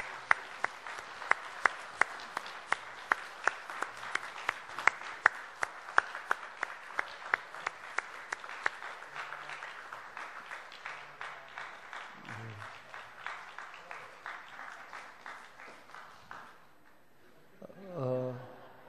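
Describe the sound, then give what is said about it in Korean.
A church audience claps steadily in congratulation as bouquets of flowers are presented, many hands making a dense, crackling patter that tapers off toward the end, followed by a brief murmur of voices. “증정하실 때에 함께 박수로 축하해 주십시오.”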